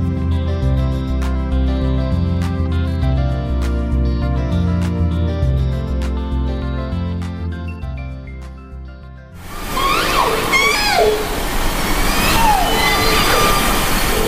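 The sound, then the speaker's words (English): Steady tonal music gives way to a hissing underwater hydrophone recording of a group of wild orcas in Puget Sound off the coast of Washington State, several squealing whistles and calls sweeping up and down in pitch over constant noise. “The sound there of a group of wild orcas in Puget Sound off the coast of Washington State.”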